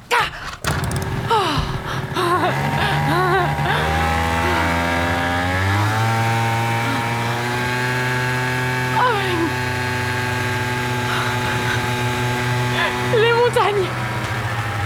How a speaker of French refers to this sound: Il y a une barque, là. Merde. Mais démarre. Fucking moteur de merde. Tu veux démarrer, oui.